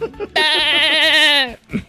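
A single loud goat bleat, drawn out for about a second with a shaky, wavering tremble, framed by a few short soft sounds just before and after.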